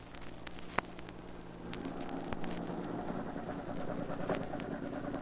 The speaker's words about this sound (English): There's a truck getting here. Get back in the shadows.